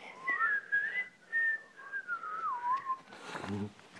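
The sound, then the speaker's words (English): A boy walking through the jungle whistles a bright, bouncy little melody for about three seconds, the notes sliding and wavering, before it breaks off into a short breathy vocal sound. “One bright sunny day, a boy was walking happily through the jungle whistling.”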